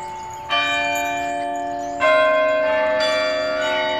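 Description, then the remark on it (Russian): Several church bells, the podzvonnye and zazvonnye bells rung together from a lever keyboard like an organ's, ring in a layered, sustained chord without the bass bells, with fresh strikes at regular intervals adding bright tones over a lingering hum. No voices, fairly loud. “Послушайте, как будут звучать колокола подзвонные и зазвонные, если их вместе совместить.”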